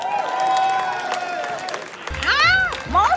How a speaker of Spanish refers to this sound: Tranquila, tranquila, son solo aplausos. ¡Qué emoción! Nos reciben con aplausos, pero ¿quiénes son? ¡Que no los veo! No lo sé, vecina. Yo solo apreté este botón y sonaron.